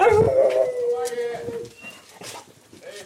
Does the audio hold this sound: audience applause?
no